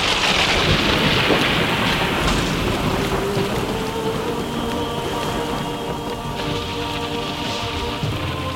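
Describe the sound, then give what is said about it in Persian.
Steady, heavy rain pours down over a low, rolling rumble of thunder, a continuous dense wash of sound with no voices. “وسط آب یه مرتبه باران میره”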